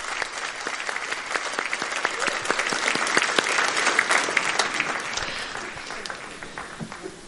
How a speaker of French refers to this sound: Nous avons terminé le cours. Merci beaucoup. Alors vous, les hommes, applaudissez.